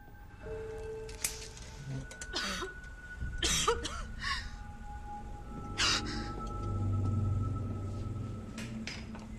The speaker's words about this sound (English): breaks a pungent vial under her nose that causes her to wake with a cough and a splutter.